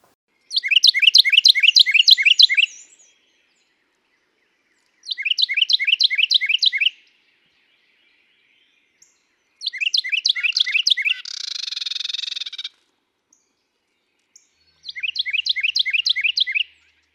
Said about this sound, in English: So listen for that unique tea kettle, tea kettle, tea kettle song emanating from woody areas, and you'll know there's a perky little Carolina wren nearby.